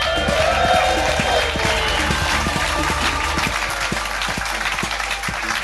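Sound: audience clapping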